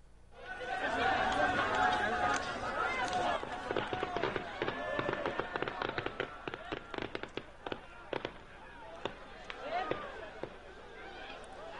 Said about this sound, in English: Israeli forces are using tear gas and water cannons to disperse the protesters. Every Friday, crowds gather near the West Bank village of Bil'in to protest the construction of a concrete wall snaking through Palestinian land.